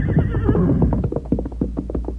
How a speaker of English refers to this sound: Victor pawed the ground, then raised his head and whinnied in understanding.